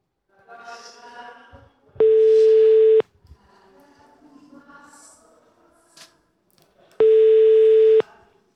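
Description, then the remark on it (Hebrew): A telephone ringback tone sounds twice, each a loud steady one-second buzz separated by a long pause, while quieter talking murmurs underneath in the gaps, as the Kol Chai radio show dials a listener for its phone game 'The Vault'. “הטלפון מצלצל יותר מדי זמן.”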